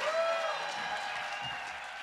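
A crowd claps steadily in a dense, continuous wash of applause, holding a fairly even level throughout, with a faint whistle-like tone near the start.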